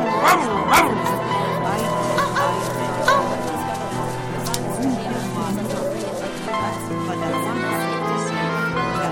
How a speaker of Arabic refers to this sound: هيا اخرج من المزرعة، هيا بالحب ونم خارج المزرعة حتى تكبر وتنبح مثل الكلاب الكبار هكذا.